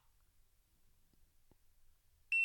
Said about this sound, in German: Ja, und jetzt habt ihr sogar gehört, dieses Gerät macht einen Piepton, wenn man es einschaltet.